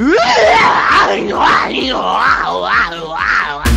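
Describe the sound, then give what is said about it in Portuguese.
A voice imitating the Tasmanian Devil with loud, nonstop warbling growls, snarls and shrieky yowls, rising and falling for a few seconds before cutting off abruptly. “E pra quem não gostou, agora vai a imitação do Diabo da Tasmânia.”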